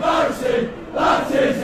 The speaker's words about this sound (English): Same phrase over and over again. We're hearing it that differently every time. I know. So that's kind of been going viral on TikTok. What is this soccer crowd chanting?